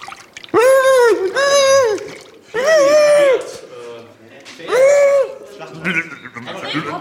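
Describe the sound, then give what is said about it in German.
A person imitates dolphin calls during a 30-second word-guessing round before an audience, with four loud, high squeaky whistle-like bursts in quick succession, then trails off into softer scattered noise. “Mach einfach. Delfin.”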